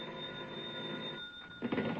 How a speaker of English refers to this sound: And then a bell started ringing somewhere and woke me out of a sound sleep.